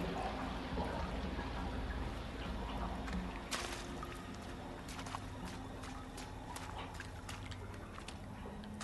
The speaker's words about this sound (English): Hey, the water's being drained. See if you can find an opening.